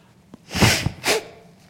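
A pastor blows his nose loudly into a microphone during a church sermon, two forceful honking bursts of air about half a second apart, with a small click before them and no talking.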